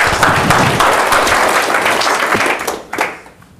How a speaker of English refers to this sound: Great job. Give him a round of applause, huh?